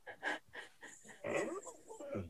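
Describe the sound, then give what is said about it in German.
A dog that needs to go outside pants in quick, breathy bursts, then lets out a high, wavering whine that rises and falls, moderately loud, with no one talking. “Es geht um Hund, damit der Hörer weiß, um was es geht.”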